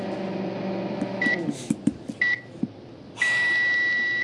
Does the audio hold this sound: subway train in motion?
no